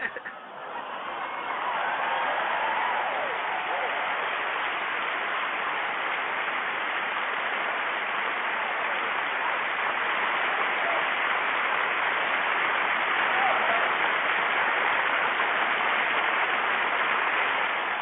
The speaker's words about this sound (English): You always come through and do what you do. So you know we got to clap it up for you.